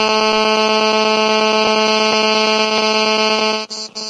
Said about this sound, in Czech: Houká tam telefon někomu.